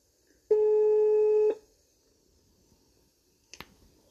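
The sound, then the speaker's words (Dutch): A single steady, buzzing ringback tone lasts about a second as a call is placed, followed by a quiet pause and a brief click as the line connects. No one speaks. “Dus ik bel haar op.”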